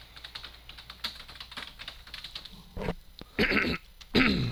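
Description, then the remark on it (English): Quick, soft clicking like keyboard typing runs for a few seconds, then a person clears their throat and coughs in three loud, rough, gravelly bursts. No one speaks. “A little bit of a frog in the throat. Yep. I hear it.”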